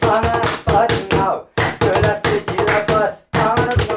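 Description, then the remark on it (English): Rhythmic hand clapping keeps time in counterpoint to lively Romani music, with a man singing and women singing, hollering, exclaiming and whistling over the beat; the sound is loud and energetic, pausing briefly between phrases. “his mother-in-law and daughter sings, holler, exclaim, whistle, and clap their hands to counterpoint the rhythm.”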